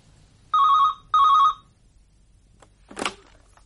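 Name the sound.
telephone ringing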